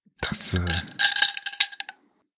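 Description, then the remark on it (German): Ice cubes falling into a glass clink and rattle in a quick burst lasting about two seconds, mixed with a brief low gurgling rumble partway through. “Das Klirren von Eiswürfeln in einem Glas war mein Prompt.”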